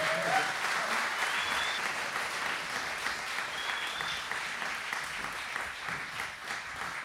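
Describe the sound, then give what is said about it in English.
A steady wash of audience applause for two guests on the radio show Swamp Radio, many hands clapping continuously at a fairly even level for several seconds, with no one talking over it. “Can we have a round of applause for you?”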